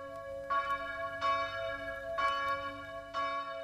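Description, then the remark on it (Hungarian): Church bells in Chicago, calling people to shared prayer against the coronavirus epidemic, ring out with four evenly spaced strikes, each bright clang blooming into a long, humming resonance that carries over into the next. No voices are heard. “Közös imára hívnak naponta ötször Chicago harangjai.”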